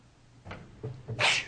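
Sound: sneeze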